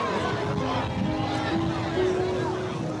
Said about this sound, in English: Police escort a hearse as it inches through a vast, mostly black crowd.